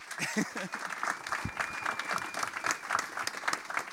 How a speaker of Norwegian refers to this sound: Stor applaus, Torgrim Øyre!